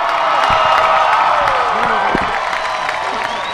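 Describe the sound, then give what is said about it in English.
A loud, sustained crowd roar after a player hits a softball home run, dense cheering and shouting with scattered whoops and some clapping, steady throughout without a break. “And the roar of the crowd when a player hits a home run.”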